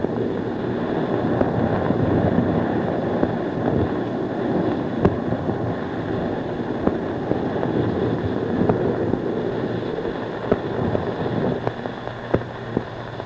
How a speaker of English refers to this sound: The roar of the water as we're cutting through the water, we're going about 25 knots. I'll hold the mic again out of the porthole. There are no jets warming up right now, I don't think. And see if you can hear the water.